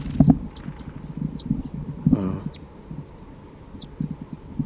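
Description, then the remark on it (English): A wild bird in the trees gives a few short, high, sharp alarm calls at irregular intervals, fairly faint over low rustling and dull thumping sounds. “And there is a vocalization of a wild bird from the trees here. Sounds like alarm calling.”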